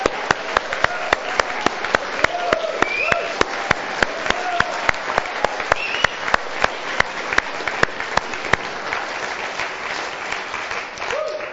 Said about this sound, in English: Let's just celebrate God a bit, will we? Let's clap our hands.